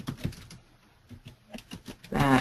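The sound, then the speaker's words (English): Keys clatter on a computer keyboard in a quick, uneven run of crisp clicks, ending with a brief louder burst of sound. “I'm typing, so no, I don't forget.”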